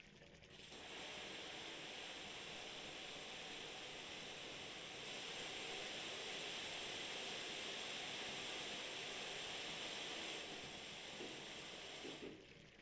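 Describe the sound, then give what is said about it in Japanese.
A shower sprays steadily for about twelve seconds, wetting a seated person's hair before shampooing, a continuous hiss of running water that splashes and patters softly as it flows over hair, starting and stopping abruptly, with no voices. “まずシャワーで髪濡らすから。”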